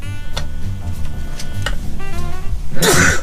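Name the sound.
sneeze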